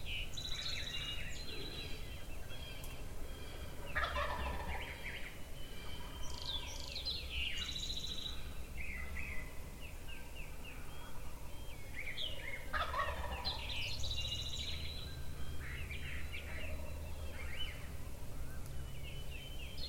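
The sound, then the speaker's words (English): A wild turkey gobbles repeatedly from its roost just downhill from the peak of a ridge, rattling bursts echoing over a steady outdoor background hum, with a few faint bird chirps mixed in and no talking. “But I want him to flop down and get off the roost.”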